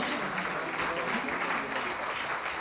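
Steady applause from an audience at an event in Legnano, welcoming an emeritus department director, a dense, continuous wash of clapping that holds at an even loudness for a few seconds with no clear voices on top.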